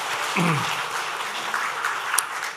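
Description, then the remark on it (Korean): A church audience claps together in a dense, steady wash of applause congratulating a member's daughter on her June 8 wedding, with a brief voice rising faintly beneath it near the start. “박수를 한번 축하하겠습니다.”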